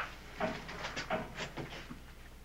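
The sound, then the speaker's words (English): In a Star Trek scene, Mr. Spock rattles and slams the barred metal door of a cell to test its strength: a series of quick, uneven clanking jolts with faint squeaks, moderately quiet, with no voices. “I'm merely testing the strength of the door.”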